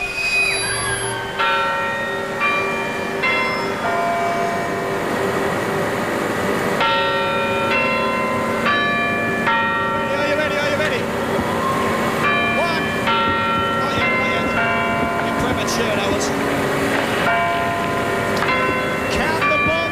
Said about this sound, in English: And the old bells, and when the bells chime, we want you counting them in with us tonight.